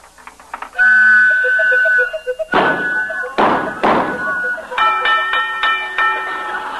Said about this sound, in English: Just a second. I think this pinball machine is going to pay off.